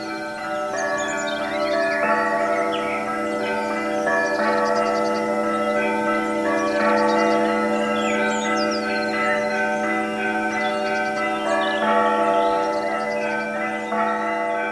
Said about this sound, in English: And any time of this week, you can ring the bells. It's joyful. Sitting on the balcony of the Sketty on Easter morning, you can hear the bells of a larger monastery in the distance.